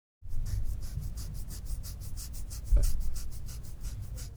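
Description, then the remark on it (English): Kids scratching their skin hard: rapid, steady scratching, a long run of quick raspy strokes repeating about five times a second, with a slightly louder bump partway through and no voices. “Kids scratching their dermis way too hard.”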